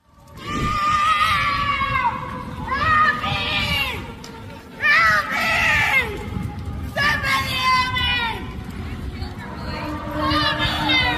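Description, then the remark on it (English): A woman screams over and over for help in distress after a man steals her bike in the middle of a street in California in the daytime, loud, high-pitched cries coming in several bursts, over a steady murmur of crowd and street noise. “She's screaming for help.”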